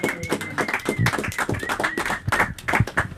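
An audience applauds during a band's appearance on the WORT Access Hour, many hands clapping in a dense, steady patter that holds at an even, moderately loud level throughout, with a faint whistle-like tone threading through the clapping.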